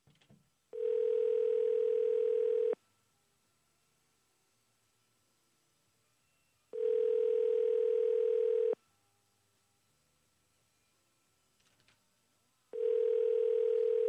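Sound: outgoing phone call ringing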